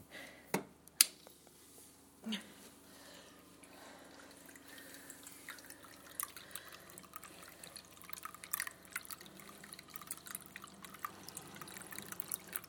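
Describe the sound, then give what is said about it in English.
Water drips steadily from a small indoor water feature in a room, with a few sharper plinks at first and then a continuous light trickling patter, quiet and without voices. “My water feature.”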